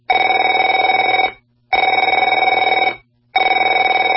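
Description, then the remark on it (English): A telephone rings in three loud, steady bursts of about a second and a half each, separated by short pauses, with a bright electronic warble and no voices. “Afraid to answer it?”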